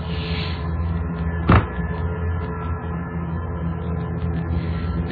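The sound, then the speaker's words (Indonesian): A single sharp, loud bang on a bedroom door cuts through a steady low background hum, then the hum continues on its own. “Astaga, aku terkaget karena suara pintu itu terdengar sangat keras sekali.”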